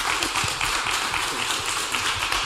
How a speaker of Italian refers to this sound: Salutiamo i nostri ospiti qui alle Murate con un applauso naturalmente di benvenuto.